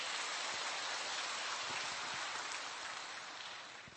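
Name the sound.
audience applause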